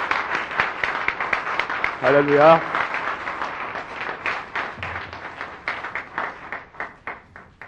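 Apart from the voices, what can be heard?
audience applauding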